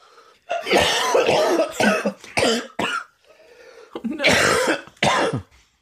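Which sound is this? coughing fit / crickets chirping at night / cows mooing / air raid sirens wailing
coughing fit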